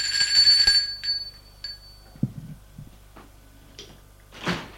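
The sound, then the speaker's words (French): A doorbell rings at Julia's home at midday with a bright, sustained metallic chime, then two brief fainter rings, followed by soft clunks, shuffling and a final rushing whoosh; no one speaks. “Midi, il sonne chez Julia.”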